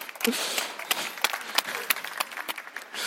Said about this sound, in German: Also, Applaus.